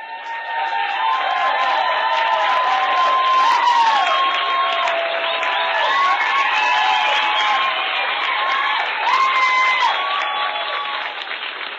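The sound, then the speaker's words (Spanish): A large crowd of company staff applauds steadily after a manager's speech announcing a 32% rise in revenue for the fiscal year, with cheers, whoops and several shrill whistles rising over the clapping. Scattered laughter mixes in, and the noise stays loud and unbroken throughout. “Aplausos, risas, vítores, silbidos.”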